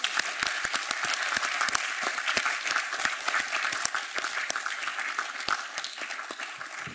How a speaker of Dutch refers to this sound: Dus wij hebben kinderchampagne. En die wordt nu binnengebracht onder luid applaus van alle aanwezigen.